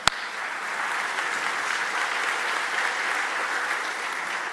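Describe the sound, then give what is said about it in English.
Steady applause from a large group at a Sunday church service, applauding the fathers on Father's Day: a dense, even patter of many hands clapping at once that holds without pause, with no voices rising above it. “It's worthy of our applause because if you're a father and you're here on a Sunday, you are one brave human being.”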